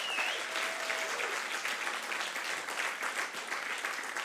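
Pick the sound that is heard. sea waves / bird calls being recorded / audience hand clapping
audience hand clapping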